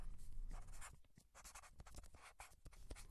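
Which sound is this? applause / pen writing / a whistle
pen writing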